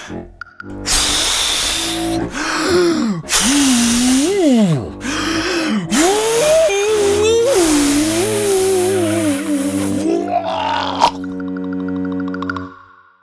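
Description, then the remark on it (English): In a telling of the Three Little Pigs, repeated loud, breathy blowing bursts mixed with strained, groaning tones that swoop up and down in pitch imitate the big bad wolf huffing and puffing to blow down a pig's house, trailing off into a buzzy hum. “Then the wolf huffed, and he puffed, and he huffed, and he puffed.”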